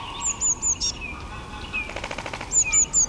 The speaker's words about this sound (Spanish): Picamadros negro, y ahí el dueto de dos macho y hembra en el nido. No lo he sabido nunca, sí. Claro, es cuando llegan arriba, se dispersan, crían y simplemente hablan en pareja. Oh, qué eco natural, es brutal.